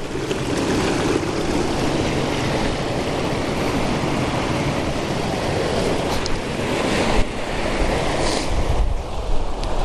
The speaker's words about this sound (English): I mean, standing here isn't worth the risk of death, but it's the best vantage point for this little waterfall. Not really a waterfall, but rapids, let's say. So I've got a tree and I've got some water.